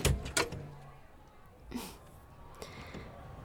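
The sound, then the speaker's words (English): A door leading to a back alley opens with a couple of sharp clunks from the latch, followed by a soft rush of air as it swings. Quiet background ambience continues afterward. “This door leads to a back alley.”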